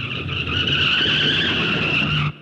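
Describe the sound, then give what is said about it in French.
A loud, sustained tire screech as a milk van brakes in an emergency, with steady high-pitched tonal bands over a low engine rumble, holding for about two seconds before cutting off abruptly. “Il sauta sur le capot, toute grippe dehors, et obligea le chauffeur à demi mort de peur à freiner en catastrophe.”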